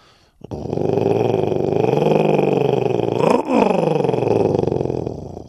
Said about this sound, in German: Als Merlin sich gerade verabschieden will und sich zum Weggehen umdreht, ertönt plötzlich ein gruseliges Knurren.